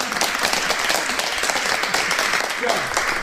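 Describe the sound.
Steady audience applause fills the whole stretch, a dense, bright wash of many hands clapping at once at an even, fairly loud level, with a faint voice surfacing briefly near the end.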